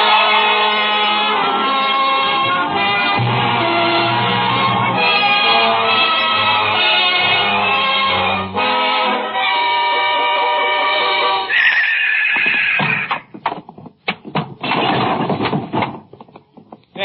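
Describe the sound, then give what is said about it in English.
A yearling filly neighs loudly and repeatedly inside a barn, her shrill, quavering calls running for several seconds before giving way to scattered clattering thumps, like hooves shifting. “Now she's inside the barn. Just listen to her.”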